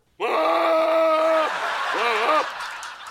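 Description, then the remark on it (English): A goat screams loud at a gravel pit: one long, strained, human-like cry, then after a short pause a second, shorter wavering scream. No one speaks. “We actually have footage of the goat's reaction on seeing the gravel pit.”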